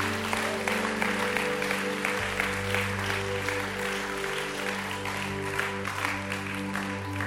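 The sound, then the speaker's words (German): Sustained applause from a large audience for those who have just made a decision for Jesus, dense and steady clapping filling the whole stretch, with a low tonal hum or music sustained underneath. “Wollen wir all denen, die diese wunderbare Entscheidung getroffen haben, einen mächtigen, mächtigen Applaus geben.”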